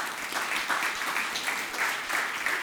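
Many people clap steadily, a dense, continuous patter of many hands at fairly even loudness for a few seconds, with no voices standing out.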